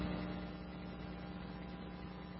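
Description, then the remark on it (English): Air conditioning runs with a loud, steady mechanical hum, a low droning tone over broad whooshing noise that holds constant throughout, with no voices. “I think that air conditioning is loud, so I can't hear you, but I think 400.”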